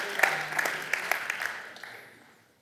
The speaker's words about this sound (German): Ich finde, das ist mal ein fetten Applaus wert. Das ist mal ein Brot.